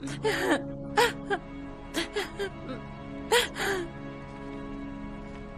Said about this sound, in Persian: ای وای عزیزم، بیا اشکاتو با کن، گریه نکن عزیزم، آخه این چه وضعشه؟